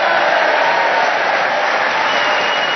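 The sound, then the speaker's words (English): A Brighton audience at the Theatre Royal in Brighton applauds loudly and steadily at a recording of the show Just a Minute, a dense, continuous wash of clapping with crowd noise and cheering mixed in, holding at the same level throughout without any talking. “And as you can hear, we have a vociferous, keen Brighton audience here representing this cosmopolitan area who are going to cheer us on our way as we begin the show this week”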